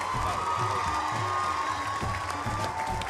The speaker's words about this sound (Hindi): दर्शक खड़े होकर तालियां बजा रहे हैं।